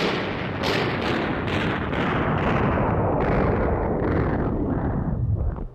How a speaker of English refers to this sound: Stop all that dreadful shooting, old man. All right, wait a minute. Let me kill the sound effect here.